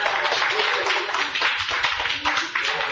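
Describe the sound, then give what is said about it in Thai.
A group of children clap their hands in a dense, continuous patter of many overlapping claps. It is fairly loud, lasts the whole time, and faint voices mingle underneath. “ทำไมจึงให้ปรบมือเพราะผู้ใหญ่เห็นว่าเด็กขยันอยากเรียนหนังสือใช่ไหม”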